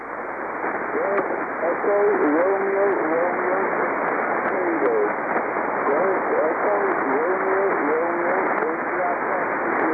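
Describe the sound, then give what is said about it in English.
A shortwave amateur radio voice from a portable station drifts in and out of a steady hiss of static, the signal fading (QSB) until the speech is nearly buried in noise, then returning faintly; received in southern Rhode Island near sunset, peaking at a signal report of 5 and 7. “Your QSB takes you into the noise, but on maximum, you are 5 and 7, F7.”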